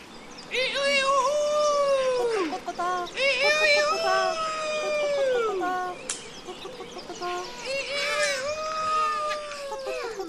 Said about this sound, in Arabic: لماذا يصيح الديك هكذا بأعلى صوته؟